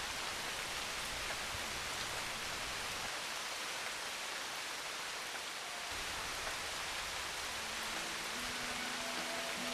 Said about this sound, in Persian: اندک اندک رفته رفته ابرها گشتند چیره، آسمان گردید تیره، بسته شد رخساره خورشید رخشان، ریخت باران، ریخت باران.